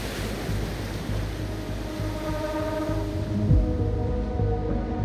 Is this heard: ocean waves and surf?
yes